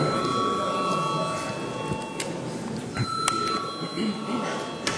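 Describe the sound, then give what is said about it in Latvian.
A parliament voting bell rings steadily for several seconds before a vote on a bill, a sustained electric tone filling the chamber while a low murmur of voices and shuffling continues underneath. “Paldies, lūdzu zvanu.”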